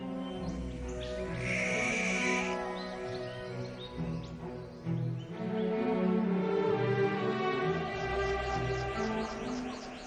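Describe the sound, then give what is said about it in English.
A dense, continuous mix of bird song and calls, with layered tonal cries and a bright high whistle early on, steady with no talking. “Birds communicate through cries, songs, and body language.”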